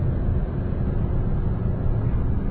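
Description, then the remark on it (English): A VW Beetle's engine drones at highway speed as it moves into the left lane, a steady, loud low rumble mixed with road and wind noise, continuous with no voices. “I'm going to get in the left lane, teach these guys a lesson. Show them what a VW Beetle can do.”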